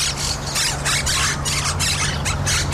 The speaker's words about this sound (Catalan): De ben segur que aquest so us deu sonar familiar. Són cotorres argentines, una espècie invasora que va arribar de manera testimonial a Catalunya, però s'hi ha acabat quedant.